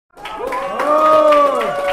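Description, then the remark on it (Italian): A crowd in Zurich, Switzerland, bursts into applause and cheering for national councillor Tiana Angelina Moser, who won back a Council of States seat for the Green Liberals. Rising, drawn-out shouts ride over steady clapping that swells quickly and stays loud for the whole two seconds. “Applausi tutti per lei, per Tiana Angelina Moser, la 44enne consigliera nazionale, riuscita nell'impresa di riportare i Verdi Liberali alla Camera dei Cantoni, 8 anni dopo l'uscita di scena di Verena Diener.”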